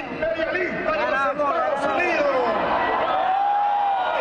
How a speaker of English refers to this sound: The crowd roars back, "Yankees no, Chavez yes."